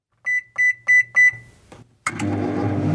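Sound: microwave oven beeping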